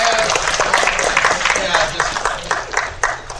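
A crowd breaks into steady applause for a contestant's magic shot, a dense wash of many hands clapping at once with sharper individual claps popping through, holding at a fairly loud, even level for several seconds.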